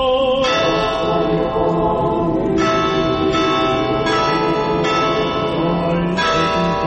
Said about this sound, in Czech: Zvona iz najvećeg pravoslavnog hrama u Srbiji označila su početak molitve u znak podrške kako je uoči ovog skupa saopštila Srpska pravoslavna crkva srpskom narodu u Crnoj Gori.